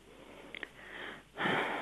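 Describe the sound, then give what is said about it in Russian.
Heavy breathing right into the microphone: a breathy hiss swelling in, then a louder, rougher gust of air, with a couple of tiny clicks between. No voices. “Не надо так тяжело дышать.”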